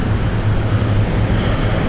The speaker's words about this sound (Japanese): あ、ほら川、